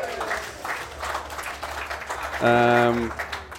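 crowd, applause

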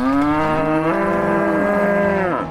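animal, brown Swiss cow mooing

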